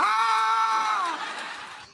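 A single loud scream holds a high, steady pitch for about a second, then breaks off and fades into a rough, trailing rasp. No talking is heard.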